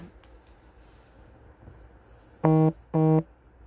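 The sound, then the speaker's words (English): A phone notification sounds off with two loud, buzzy honks in quick succession, each lasting about a quarter second, against a quiet background hum with no one talking. “is that your phone honking at you?”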